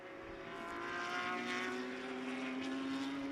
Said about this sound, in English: These 4-litre six-cylinder engines are just as gutsy as they can be. They sound fantastic